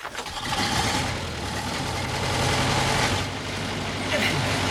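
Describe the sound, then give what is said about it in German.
A fire engine starts up and is driven out of the garage, its heavy motor rumbling low and steady with a loud, continuous roar that swells a couple of times as it revs. “Ich fahre den Löschwagen aus der Garage.”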